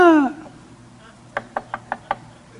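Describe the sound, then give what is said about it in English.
Five sharp knocks on a door in a quick, steady rhythm, distinct, following the tail end of a voice at the start. “There'd be a knock on the door.”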